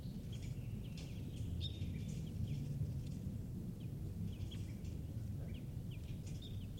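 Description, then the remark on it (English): Short, sharp alarm calls of a wild bird repeat at irregular intervals, faint, over a heavy, steady low rumble of wind or background noise. No one is speaking. “And a wild bird is here giving alarm calls.”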